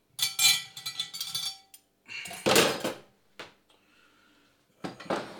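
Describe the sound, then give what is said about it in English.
Metal cutlery clinks and rattles in several bursts, sharp jangling scrapes with brief pauses between, like utensils being handled and set down together. “I don't really know what you call it. Cutlery? It's the word I'm looking for.”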